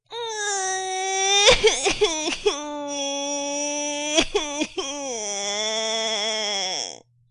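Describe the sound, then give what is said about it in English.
A baby howls loudly and without pause for about seven seconds as the Duchess tosses it violently up and down while singing, long high wails broken by two short bursts of choppy, sobbing gulps, with the pitch wavering before the cry cuts off. “While the Duchess sang the second verse of the song, she kept tossing the baby violently up and down, and the poor little thing howled so that Alice could hardly hear the words.”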